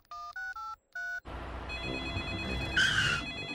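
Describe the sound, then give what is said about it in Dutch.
Four short two-tone keypad beeps as a phone call is placed to a tow truck service, then a continuous, buzzy phone sound with a steady hum and a brief bright, shrill ring near the end. No one speaks. “Ik bel even naar de volgende hulpdienst.”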